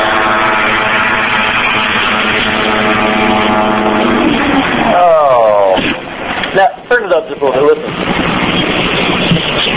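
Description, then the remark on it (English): A steady propeller engine drone of an airplane hums with wind buffeting, then partway through the person filming the video lets out drawn-out, wavering groans over the noise as the flight fails. “That groan at the end, whoever was taking the video footage, I'm sure that is not the desired outcome that they wanted from that airplane, that who knows how much time they spent designing and how much work and effort went into that.”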